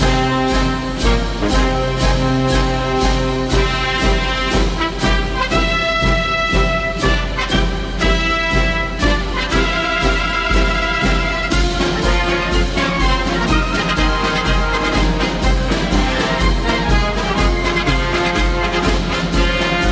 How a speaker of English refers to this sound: There's some military music for you for a 4th of July. I'm trying to get the 4th of July mood.